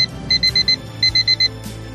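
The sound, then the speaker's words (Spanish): An alarm clock beeps in two quick bursts of four sharp, high electronic tones each, loud, with no voices present, ringing earlier than during the holidays on a back-to-school morning. “El agradable despertador que suena antes de lo que ha hecho durante las vacaciones.”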